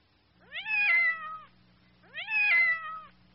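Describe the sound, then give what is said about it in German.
A cat meows twice, two drawn-out, rising-then-falling calls about a second apart, heard clearly with a faint low hum underneath. “Ja, das ist eine Katze.”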